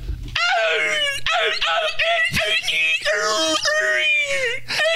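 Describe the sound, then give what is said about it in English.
A person imitates a seagull, voicing a string of shrill, wavering seagull-like cries, rising and falling in several loud bursts with brief breaks between them. “And of course, we're all going to go around the room now and do our best seagull impression, right?”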